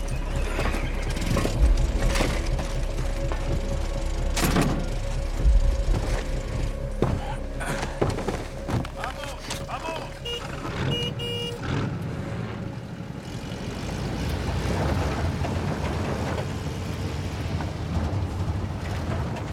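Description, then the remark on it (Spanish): Boat engines being started up rumble loudly and steadily throughout, a deep continuous drone with a faint mechanical whine, scattered clanks, and gusty wind noise across the microphone, with no one speaking. “¡Enciendan los motores!”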